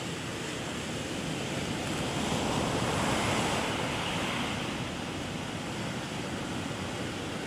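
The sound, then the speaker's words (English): Steady roar of ocean surf washing onto the shore, a dense wash of noise that swells slightly midway before settling. No voices, just continuous waves filling the scene. “Now it's like Puri, waves.”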